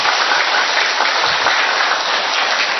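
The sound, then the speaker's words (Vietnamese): Loud, dense applause from a gathering welcoming a man from northern Vietnam who has come to give testimony for God, a steady wash of many hands clapping at once that fills the whole stretch without pause, sustained with no voices standing out. “Một tràng pháo tay thật lớn thưa anh chị em. Vỗ tay to lên thử con nào.”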